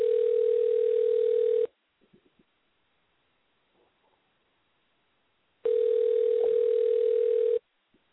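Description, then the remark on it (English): A phone ringback tone of an outgoing call sounds twice: a steady, mid-pitched buzzing tone lasting about two seconds, a long silence with a few faint clicks, then the same tone again. No one speaks. “Calling Vienna.”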